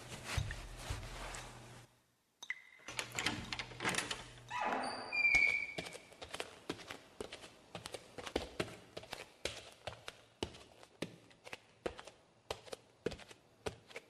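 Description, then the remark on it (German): A knife pokes in a keyhole to dislodge the key left in the lock onto a sleeve pushed under the door, scraping and clicking with a steady run of sharp metallic taps and a brief squeaky creak as the door gives way, no voices. “So, den Ärmel unter die Tür durchschieben, mit dem Messer ein wenig im Schlüsselloch umstochern und voilà, da haben wir ihn.”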